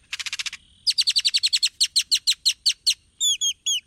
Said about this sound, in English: Great-tailed grackles are known for their long, expressive tails and their wide vocabulary of odd sounds.